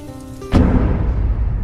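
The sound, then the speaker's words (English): A storm rages outside a house: a low steady tone is abruptly cut through by a loud crack of thunder, which gives way to a heavy, continuous rumble and the dense hiss of pouring rain. “as Anne and John stood by the fireplace, watching the storm rage outside.”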